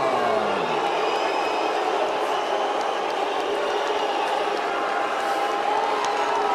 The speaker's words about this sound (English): Expected, the Rio crowd does not like the decision, but Kelvin Gastelum, congratulations as you take out another legend here tonight.